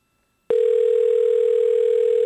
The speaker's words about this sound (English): That's his phone ringing.